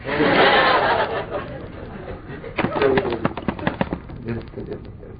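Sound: pigeons cooing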